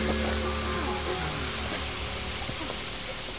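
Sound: water spraying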